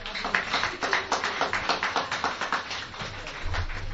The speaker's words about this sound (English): It is such people that makes Biafra what it is today. And we owe them a round of applause all over the world, wherever they may be.